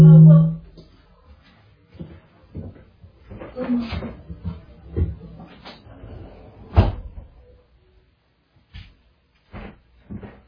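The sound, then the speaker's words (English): Handling noises and knocks build to a solid thud as a door that had been left open is pushed shut, in Alaska on a hot day, followed by a few lighter taps, with muffled voices in the background. “I got to shut this door, or we're going to have. I left it open.”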